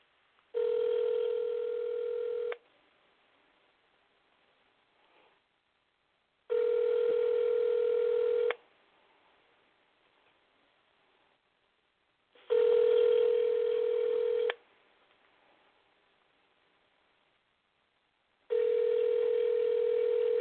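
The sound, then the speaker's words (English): A telephone call placed by a radio host to a mother on Mother's Day rings on the line, a steady buzzy tone sounding four times in two-second bursts with roughly four-second gaps of near silence between them, and no voices. “So I have another mother that I'm going to call, and I know she probably don't know I'm going to call her, but I'm going to call her right now anyway, and hopefully she answers her phone.”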